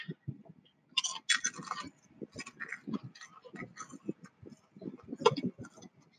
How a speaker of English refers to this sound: All right, so this is the salt and vinegar chip. Ready for some chewing ASMR.